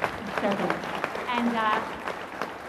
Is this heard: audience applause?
yes